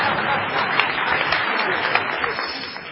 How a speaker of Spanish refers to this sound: Sí, puede aplaudir, señora, ya que tiene ganas. Aplauda.